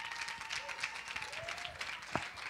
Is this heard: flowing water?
no